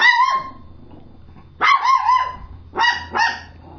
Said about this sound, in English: What is it about dogs and mailmen? I don't get it. Okay, that's it. Done. Mailman's gone.